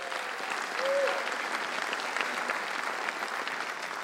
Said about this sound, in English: Ryder, can you come up on stage with me real quick? Can you guys give Ryder a round of applause?